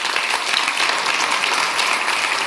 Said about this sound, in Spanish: Los aplausos de los asistentes en el Gran Teatro del Liceo de Barcelona tras el anuncio de Pau Gasol.